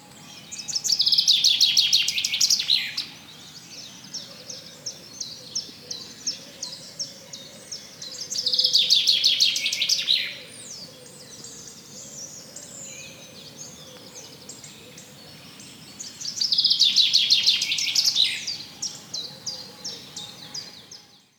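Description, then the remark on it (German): A bird sings in three loud, bright bursts of rapid trilling notes, each lasting a couple of seconds, separated by quieter pauses filled with softer chirps and faint background ambience. “In diesem Moment stehe ich einfach nur da, betrachte den Vogel und lausche seinem bezaubernden Gesang.”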